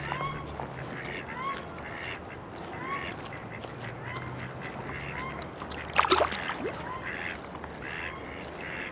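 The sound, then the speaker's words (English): Ducks quack repeatedly by a river over a steady wash of flowing water, with one brief, louder splash-like burst partway through. “What did you see? Leaves, silt, sticks, reeds, grass, mud, stones, ducks.”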